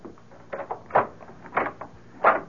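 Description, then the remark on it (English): A door is unlocked and opened: a few short metallic rattles and clunks, spaced about half a second apart, with no voices. “Why have you got the door locked?”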